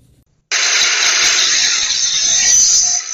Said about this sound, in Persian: این سر و صدا در ورکشاپ‌های فعال در محبس عمومی ننگرهار است. این محبس شکل یک بازار کاری را کسب کرده و همه روزه صدها تن زندانیان در ساحات مختلف زندان سرگرم کار و فعالیت هستند.